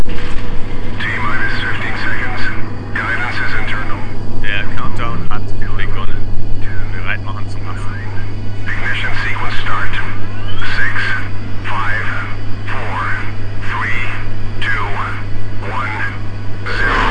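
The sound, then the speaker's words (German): A deep, steady rumble of a simulated rocket launch holds throughout, a loud low-frequency roar with voices talking over it the whole time, as a motion seat turns, tilts back and shakes strongly. “Aber Achtung, die Rakete wird sich gleich bewegen.”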